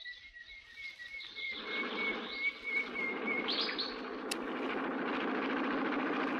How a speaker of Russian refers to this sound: Ух ты! Вертолет! Ребята из авиамодельного кружка сделали.